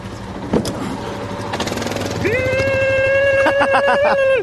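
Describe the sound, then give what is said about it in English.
A breakdown truck fitted with a large winch rumbles up and pulls to a stop, its engine noise giving way to a loud, steady mechanical whine with rapid rattling pulses near the end. “Oh, and they're stopping.”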